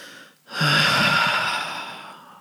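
A long, deep, hearty breath out during a guided breathing exercise, loud, rushing and breathy after a brief pause. It begins strongly and slowly fades over about two seconds. No one speaks.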